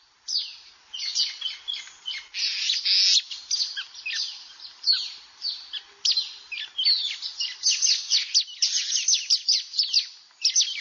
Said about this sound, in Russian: Сейчас здесь поют птицы